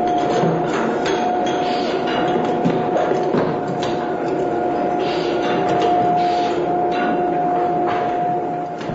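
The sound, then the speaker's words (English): Steady, loud bottling machinery in the bottling room of the Cuvaison winery, bottling aged wines, runs without pause, a dense mechanical clatter with a constant high whine droning through it and faint rhythmic knocks, no voices. “In this case, though, it's the bottling room at Cuvaison after the aged wines have been okayed by Philippe Tonnier, president and winemaker of the company.”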